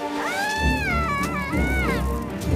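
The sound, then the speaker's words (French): A baby seal pup on the ice pack in Alaska cries in one long, wavering, nasal wail that rises, holds, and bends in pitch, briefly dipping midway before trailing off. It is fairly loud over a low steady rumble. “C'est un bébé phoque, un petit bébé phoque.”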